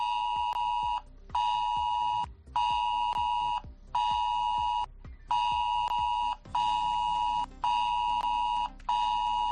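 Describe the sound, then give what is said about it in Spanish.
A harsh, insistent alert tone repeats in eight loud bursts of roughly one second each, separated by brief gaps, the 112 emergency alarm on a mobile phone, sent as a test under the Cantabria regional emergency plan for the area of the Alsa, Mediajo and Mataoz dams, with no voices. “Ojo, si vives en la zona de las presas de Alsa, Mediajo y Mataoz, porque dentro del plan de emergencias del gobierno regional, entre las 10 y las 12 de la mañana, te va a saltar esto en el móvil.”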